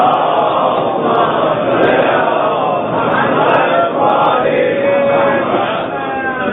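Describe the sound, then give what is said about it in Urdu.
A large crowd chants salawat, a devotional phrase, together in unison, a dense, loud wash of many voices rising and falling steadily for several seconds, sustained. “ہمارے دیگر نعرے صلوات”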